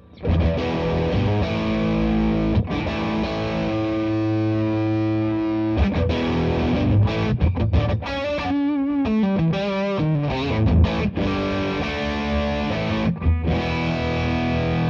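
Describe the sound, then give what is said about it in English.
A heavily distorted electric guitar, played through a distortion pedal with the bass set at noon, plays loud, sustained chords and then quicker riffing with bent notes, thick and saturated, with no one speaking. “So if you're, let's say you're using a Champ at home or something with just a treble control, use a 3-band EQ in your signal chain or a distortion pedal with more EQ options.”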